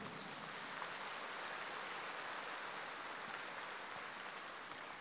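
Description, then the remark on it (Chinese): An audience at a lecture claps steadily for about five seconds, a dense, even patter of many hands with no pauses and no voices over it. “鼓掌的人不是这么多，我就知道，因为你们还没听懂。”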